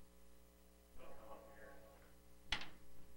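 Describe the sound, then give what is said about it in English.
A door swings shut with one sharp thud near the end, after a stretch of faint, muffled voice-like sounds over a steady low electrical hum. “Now I need to close my door because people don't want to hear ringing phones.”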